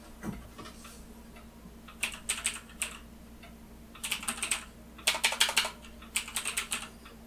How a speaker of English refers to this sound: Man, you hear that keyboard? Ah, God, I love this keyboard. This keyboard is the fucking greatest. It's a Black Web keyboard. Bought it at Walmart. Apparently, I think Black Web is like a Walmart brand or something. Oh, I love this keyboard.